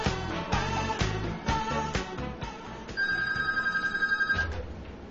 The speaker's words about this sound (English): Tick, tick, tick. Oh, my God, we already got a phone call. Hold on.